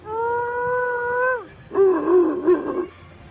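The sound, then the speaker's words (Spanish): A voice imitates the roar of Chewbacca from Star Wars: first a long, steady howling moan that sinks in pitch at the end, then a rougher, gargling, warbling roar, loud and alone without talk. “La fonética del idioma de Chewbacca es como el grito de una vaca herida.”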